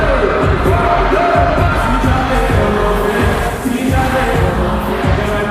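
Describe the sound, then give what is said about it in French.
A loud, sustained roar of a jubilant cheering concert crowd at the Palais des Sports in Antananarivo, Madagascar, at 7:30 pm, dense and continuous throughout with shouts and whoops rising over a low, pulsing music bed. “19h30 au Palais des Sports, deux écrans géants derrière lui, une foule en liesse”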